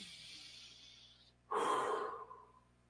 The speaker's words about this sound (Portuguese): Então, acabou de engolir, foi. Respira fundo.